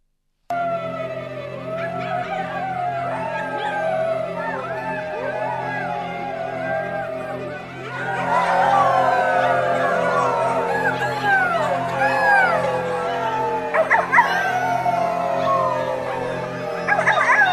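A chorus of wolf cubs howling and whimpering, played on Radio Libertaire, many overlapping high, sliding cries running continuously and growing louder and busier about halfway through, over a low steady background hum.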